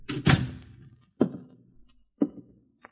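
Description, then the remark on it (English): A door being opened by a woman: a heavy wooden thunk followed by two more clunks and a faint click, each with a short resonant decay, with no talking. “As soon as she opened the door, I knew she'd found out.”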